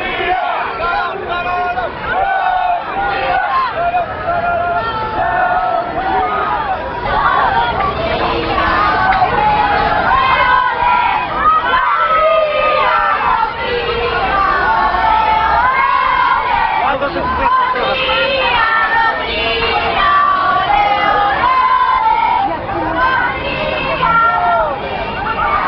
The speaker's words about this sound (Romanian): La București, câteva sute de oameni, majoritatea tineri și copii, s-au îndreptat către Piața Victoriei, în fața sediului guvernului, scandând numele României în maniera din decembrie 89.